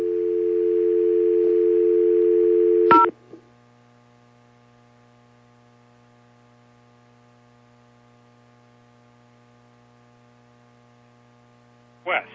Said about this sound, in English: I keep getting phone calls from dial tones.